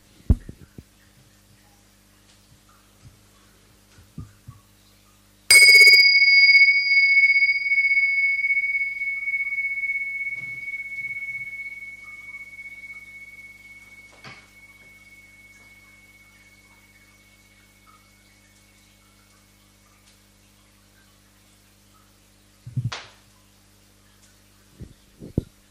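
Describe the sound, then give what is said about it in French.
A small bell is struck once and rings out with a clear, high, steady tone that fades slowly over about fifteen seconds, in otherwise quiet surroundings with a few faint bumps. “Voilà, je vais commencer avec un petit son de cloche.”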